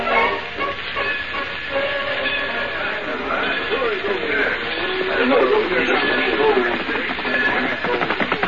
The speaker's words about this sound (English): You drive this choo-choo real slow to the man on horseback and keep up with it.